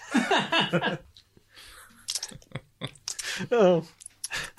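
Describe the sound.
Wet, squishy chewing sounds close to the microphone, interrupted by bursts of vocalizing and animated voices; the chewing comes in short irregular clicks and smacks between them.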